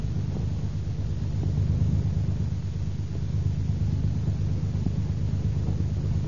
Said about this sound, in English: She hurries to the door, eager to greet her husband, when she hears the car back out of the driveway.